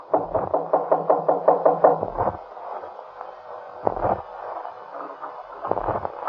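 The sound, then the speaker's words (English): A rapid burst of about nine firm knocks on a wooden apartment door, followed by a pause and two more isolated knocks, with a dull hollow thud and no voices. “Just go up the stairs and knock on the door on the left.”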